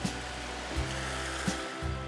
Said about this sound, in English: And as she yawned a great big yawn, and smiled a huge smile, she could still hear the sound of the waves splashing against the pier.